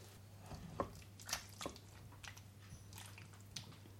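A thick, wet mixture is poured out into a gratin dish, making soft squelching and plopping sounds in a few irregular bursts over a faint steady hum, with no one talking.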